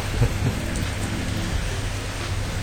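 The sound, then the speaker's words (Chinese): Heavy shower rain pours down steadily in Hangzhou, China, on an August evening in 2020, heard from the entrance of a Starbucks, while a deep roll of thunder rumbles low underneath, a dense, continuous wash of water with the thunder sounding heavy. “我靠，他又打雷。”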